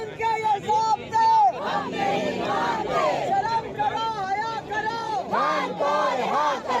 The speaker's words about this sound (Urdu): اس سے قبل گورکھ پور ناکے پر پولیس نے پی ٹی آئی رہنماؤں اور کارکنوں کو روکا. اس دوران دھکم پیل بھی ہوئی. کارکنان نے شدید نعرے بازی کی.